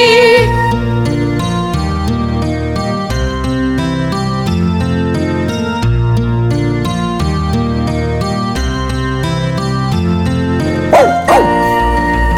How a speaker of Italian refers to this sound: Il cane abbaia e la pecora, beh, beh, beh.